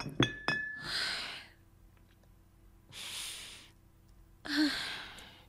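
glasses clinking

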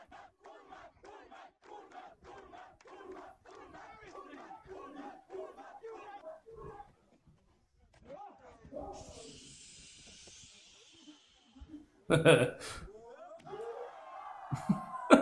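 wrestling crowd cheering

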